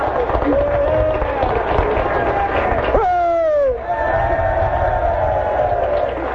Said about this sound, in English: Now, are you applauding for or against, gang? Which is it?